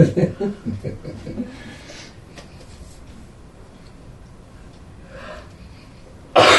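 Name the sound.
sneeze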